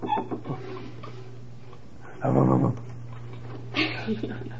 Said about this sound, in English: Doggy. Woof, woof, woof, woof. Where is that doggy?